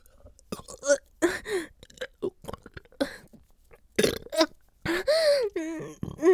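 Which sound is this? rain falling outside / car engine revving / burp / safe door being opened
burp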